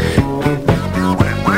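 Loud, nasal duck-like quacking voice over music, several squawky bursts in quick rhythm with a steady backing tone; a voice imitating a duck's quack in a playful song.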